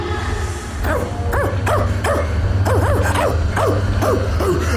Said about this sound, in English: Oh, stop barking, Hendrik. You're doing my head in.